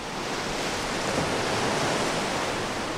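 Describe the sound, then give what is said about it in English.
A steady, rushing wash of ocean surf fills the whole stretch, a dense roar without distinct breaking crashes, fairly loud, with no voices. “His father tried to catch him, but the waves separated them.”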